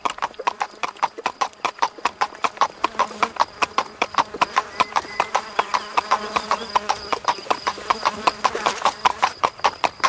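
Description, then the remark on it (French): A panicked horse bolts, its hooves clip-clopping steadily and quickly on a hard surface in a brisk galloping rhythm that continues throughout, with a faint horse whinny briefly mixed in partway through. “La puanteur était si épaisse que le cheval fut pris de panique et prit le mort aux dents.”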